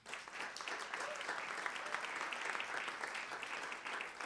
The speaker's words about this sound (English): C'est un petit tonnerre, il va falloir réapprendre un peu à faire des vrais tonnerres d'applaudissements.